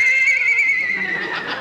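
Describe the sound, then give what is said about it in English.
A voice imitates a horse's whinny in a Lost and Found announcement of unclaimed pets: a single high, wavering neigh that trembles and slides downward for over a second, loud with no talk over it. “We have a dog. A horse.”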